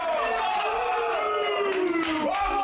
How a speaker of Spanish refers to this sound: Es el grito de Cristiano nada más llegar al vestuario. Se suceden las palmadas y los abrazos entre unos y otros. Acaba de entrar Carvajal gritando después de la victoria. El capitán Ramos abraza y palmotea a unos y a otros.